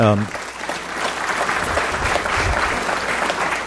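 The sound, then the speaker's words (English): An audience at Heritage Bible Church claps steadily to thank the Charnock Institute of the Bible for bringing artifacts, a dense, even wash of many hands that holds at a consistent loudness throughout, with a brief voice at the very start before the applause takes over. “We'll tell them we clapped.”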